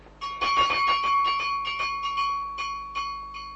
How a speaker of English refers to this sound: Now, that's very strange, sir. I thought there was no one else in the building. No, sir, but look which bell it is. Well, which bell, man? I mean, you're here, sir, down here. Well, which bell is it? It's the bell of your room, sir.